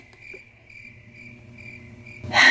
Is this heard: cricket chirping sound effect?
yes